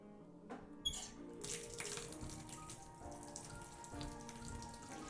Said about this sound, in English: I think the warm water would relax you. Come on, stand up, and you can lead me there. Thank you, baby. Let me just run the water.